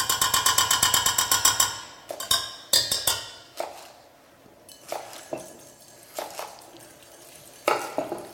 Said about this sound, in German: Dann habe ich die Eier getrennt. Das heißt, ich möchte nur das Eigelb haben für unser Eis. Dort gebe ich noch einen kleinen Schluck Milch mit dazu. Und diese ganzen Nummer rühren wir natürlich auch glatt.